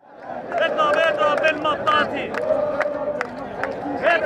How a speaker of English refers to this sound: A group of protesters sing and clap enthusiastically during a Tahrir Square rally in downtown Cairo. It's been 4 months since the revolution, and 200,000 mostly leftist and secular demonstrators are demanding an end to military rule.